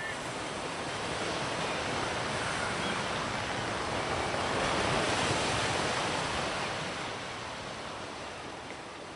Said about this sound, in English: Oh, no, the wind. Oh, fuck a current.